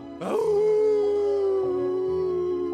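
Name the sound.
hound dog howling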